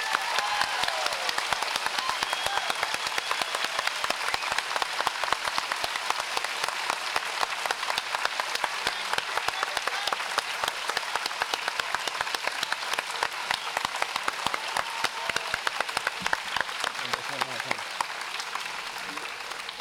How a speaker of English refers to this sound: And we've had volunteer labor for all of that, friends. It is an incredible thing. So if you can give them a rousing round of applause.